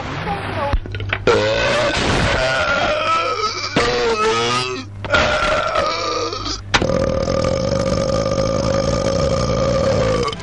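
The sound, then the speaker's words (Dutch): A series of long, loud burps, one after another, some pitched noticeably lower than others, ending with a drawn-out, steady belch that lasts several seconds. “Ja, je hoort wel dat die ene boer wat laag gaat dan die andere, maar...”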